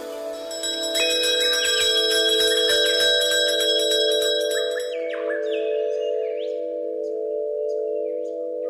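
Gentle bell chimes ring out with sustained, shimmering tones layered over one another, fading slowly with a soft high tinkling that trails off after a few seconds. No one speaks.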